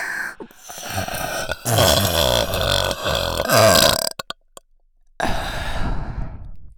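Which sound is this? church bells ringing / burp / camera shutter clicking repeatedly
burp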